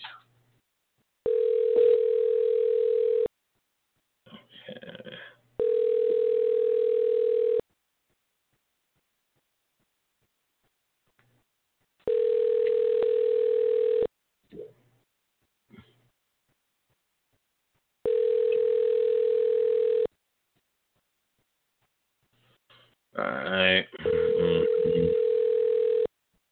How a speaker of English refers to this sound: How can a phone ring that many times? That lets me know that there's probably some kind of interference with the signal. Phone ring that many times. And then it just stops.